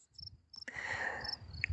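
Crickets chirp by a fairly large lake in repeated high-pitched bursts, fairly faint and steady, over a soft rushing outdoor background with a few low muffled thumps near the end.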